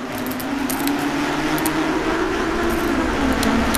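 A steady mechanical rumble of a bumper car driving out of the Linnanmäki amusement park, with bright metallic crackles and jingling sparks flickering on top as the car draws power from a tram's pantograph, fairly loud throughout.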